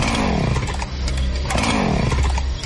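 A loud chainsaw engine, used outside by a man wearing a mask, revs up and winds down twice in quick succession, its harsh buzzing roar steady with no voices.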